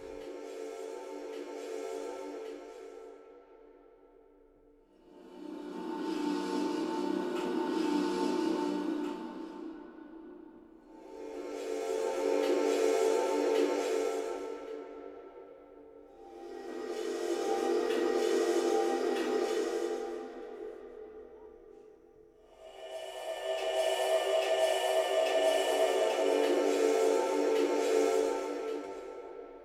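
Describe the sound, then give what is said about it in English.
A hairdryer-like whirring hum drifts in from the street, swelling up and fading back in about five long, even waves, with a steady droning pitch and no voices. “Sounds like a hairdryer or something. I think it's actually just the street, somewhere on the street somewhere, and it's just a little grain of that.”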